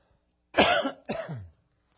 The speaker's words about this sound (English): Those of you who want to pray, you could pray that this cough that I have will not keep me from speaking.